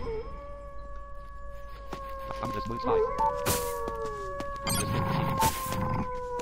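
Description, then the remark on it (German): Several long, steady wolf howls in a video game overlap and slowly glide in pitch, holding on for seconds, with a voice talking and a few sharp bursts of noise. “So, wo sind jetzt diese Wölfe?”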